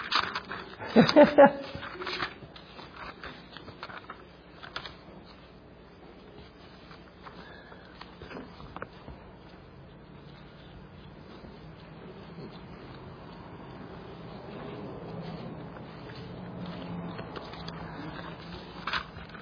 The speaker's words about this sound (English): I've been back into using a paper Bible, now I get to turn pages.